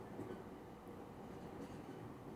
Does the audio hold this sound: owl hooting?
no